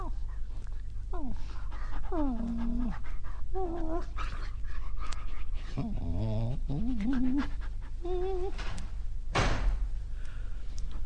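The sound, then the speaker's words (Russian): An exhausted, injured dog limping on three legs whimpers and whines at a neighbour's door past midnight in a series of rising and falling cries, with panting between them over a steady low background hum, and a brief sharp knock near the end. “Ой, ты собака, собака, несчастная собака.”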